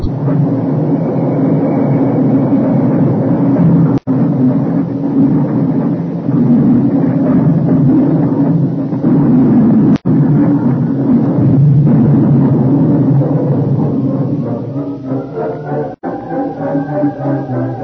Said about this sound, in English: Companion had seen the runaway train from a distant hill and had ridden to the scene of the wreck at top speed.